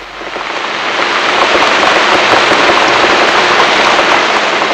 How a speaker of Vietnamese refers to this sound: Rồi bỗng nhiên, mưa xối xả như trút nước, tiếng gió giật từng cơn, gào thét trong màn mưa trắng xóa trên cánh đồng cỏ.